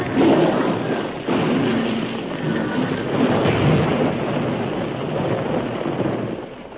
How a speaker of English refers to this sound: Not that way. You're running right in the path of the explosion.